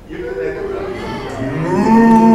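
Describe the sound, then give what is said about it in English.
A human voice imitates a cow's moo in answer to a question about what a cow sounds like, one long drawn-out low call that rises and swells louder toward the end, clear with slight background murmur. “What does a cow sound like?”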